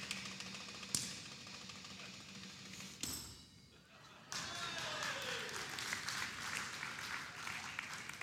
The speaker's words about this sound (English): Clapping for him, hey. Brilliant child.